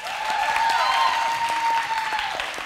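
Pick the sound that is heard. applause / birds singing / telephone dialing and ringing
applause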